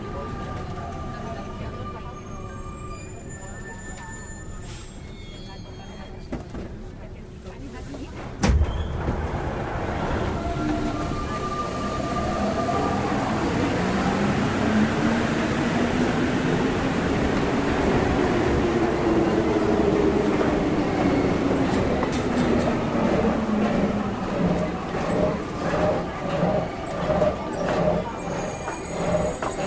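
An RER commuter train on a line through Gare de Lyon rumbles along steadily, its electric motors whining as the pitch sweeps upward and back down, with faint chatter and clatter in the carriage around.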